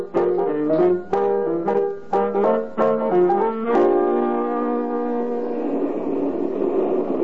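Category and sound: vehicle, bus arriving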